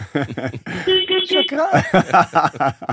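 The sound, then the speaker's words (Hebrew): A car horn gives one steady, buzzy honk lasting about half a second, sounding between stretches of people talking, who carry on speaking before and after it. “תן צפצוף.”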